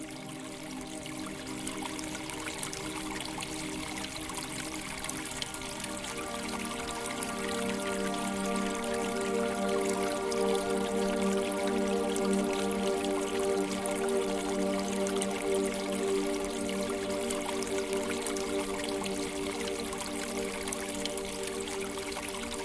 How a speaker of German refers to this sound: In der Ferne hörst du das sanfte Plätschern eines Springbrunnens. Sein Wasser funkelt im Licht der Sterne. Und sein Klang ist ungemein beruhigend.